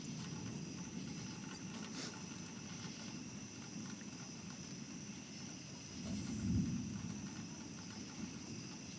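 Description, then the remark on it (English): Deep, continuous rumbling thunder rolls at a low pitch, fairly quiet, with a brief swell of heavier rumble toward the end. No voices. “Okay, if you have big speakers or headphones, get them out, because this is some pretty low frequency thunder. It's pretty low, but it's very rumbly.”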